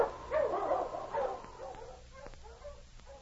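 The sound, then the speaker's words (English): A pack of sled dogs in a dog team pulling a sled barks and yips as it approaches around the side of a mountain, with a couple of stronger bursts early on, then fainter, scattered yelps trailing off. No one speaks. “A short distance ahead of Pete and Joe, a dog team and sled was approaching them around the side of the mountain.”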